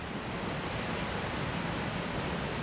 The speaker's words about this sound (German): Ja, ich dachte es schon, dass es näher beim Wasserfall wäre.